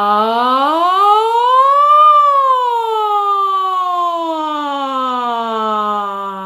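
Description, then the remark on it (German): A single sustained voice glides smoothly up in pitch, then slowly slides back down, imitating a siren as a vocal training exercise, in one long, steady, fairly loud breath with no words. “Erstmal eine kleine Sirene und dann erweitern wir das noch.”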